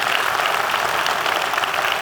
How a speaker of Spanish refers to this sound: Si Dios le habló de alguna manera, dé un aplauso al Señor, que Él se lo merece. Amén.